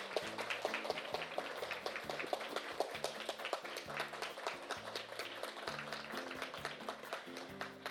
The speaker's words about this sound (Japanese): 今日は千葉交響楽団の皆さんにおいでいただいています。では拍手でお迎えいただきましょうか。